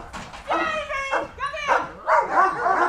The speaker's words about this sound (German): Jamie, der knurrende Dobermann-Mischling, folgt ihr wie ein Schatten.